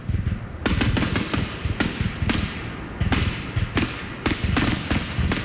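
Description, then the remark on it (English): A dense barrage of fireworks launching and exploding at night, sharp booms and cracks following each other in quick irregular succession over a steady low rumble, with no talking. “People who shoot fireworks get to enjoy sort of the same thing that rock stars and athletes get to enjoy, which is the cheers and adulation at the end of the night of 1,000, 10,000, how many people cheering for you.”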